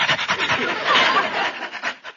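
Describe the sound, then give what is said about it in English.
A man down on all fours imitates a dog panting: quick, breathy huffs in a steady rhythm, fairly loud, with no other sounds around. “Well, he's panting, so I'll pant.”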